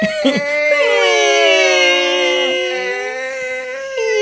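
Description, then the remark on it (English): A voice imitates air squeaking slowly out of a balloon: a loud, sustained, whiny squeal about four seconds long, its pitch wobbling and gliding gently up and down before briefly breaking off. “It does, and it sounds like when you let the air out of a balloon very slowly.”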